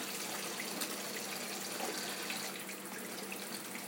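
water running

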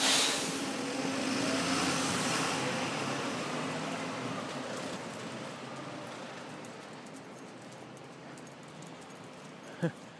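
road traffic

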